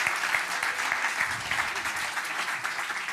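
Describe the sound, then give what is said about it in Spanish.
A crowd claps steadily for a few seconds, a dense, continuous patter of many hands at an even loudness, with faint voices mixed underneath, applauding after a 'great chia orange collider' demonstration worked. “Sí, señor, un aplauso, por favor. Un grandísimo aplauso.”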